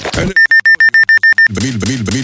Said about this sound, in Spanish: El despertador. La primera cosa que odiamos al abrir los ojos.